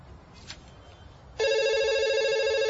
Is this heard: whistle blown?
no